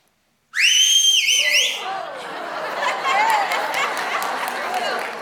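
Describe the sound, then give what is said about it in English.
Someone whistles a short, bright, wavering tune for about a second, loud and close, then it breaks off into laughter and excited chatter from a small group. “Whistling.”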